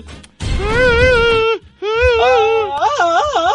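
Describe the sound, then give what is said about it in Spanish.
A person imitates Tarzan's jungle yell: a loud, sustained, warbling vocal cry in three bursts, the pitch wavering up and down with a strong yodel-like quiver, over a low rumble. “Grito de Tarzán, el mejor grito, lo tenemos que seleccionar.”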